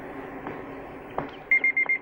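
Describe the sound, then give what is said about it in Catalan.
A car phone rings with a rapid series of high, steady electronic beeps in short bursts, starting after a low background rumble marked by a couple of soft knocks. “Despenja el telèfon del cotxe.”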